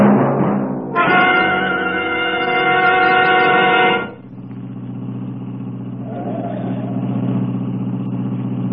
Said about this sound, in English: Who can relax in this mess of traffic? There must be a wreck or something up ahead.